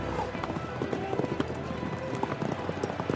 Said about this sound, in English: As the starter lowered his flag, the horses raced off, with the spectators who'd ridden out to see the start riding along behind them.